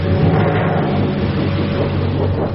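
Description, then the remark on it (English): A thunder sheet shaken hard for a storm effect, giving a loud, continuous rolling rumble with a metallic, wobbling drone that sustains without pause for a couple of seconds. “Go, storm. Thunder sheet.”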